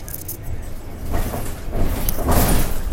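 A bus idles with a steady low engine rumble, then hissing, whooshing bursts of air rise twice, like doors or brakes releasing, over a continuous noisy background.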